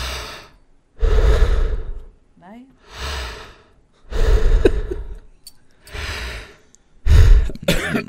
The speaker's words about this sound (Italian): Devi sollevarti la maglietta. La maglietta, tiriamo su, tiro su la maglia. La maglietta. Fare dei respiri profondi.